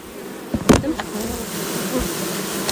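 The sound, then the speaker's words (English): A dense, steady drone of many honeybees buzzing, recorded with a phone held right inside the hive, with a brief louder rustle and thump near the start as the bees are driven to the bottom of their box and poured into the hive, then a continuous humming swarm. “And you're going to hear a loud bang because I'm going to drive those bees to the bottom of that box, right near the opening, and then I'm going to pour them.”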